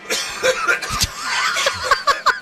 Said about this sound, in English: Why do you laugh when I cough? Because it's just so aggressive. Exactly.